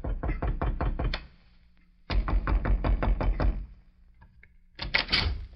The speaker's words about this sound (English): It was almost 2 weeks later when a young girl in Bedford, Texas, answered a knock at the front door of her home.